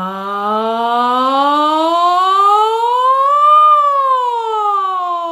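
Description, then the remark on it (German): A single sustained sung 'ja' slides slowly upward in pitch from low to high, peaks, then glides back down, a voice imitating a siren in a vocal exercise after a deep breath into the belly, fairly loud, with no other sounds. “Ich atme tief in den Bauch und dann auf einem Ja setze ich unten an und gehe nach oben und wieder zurück.”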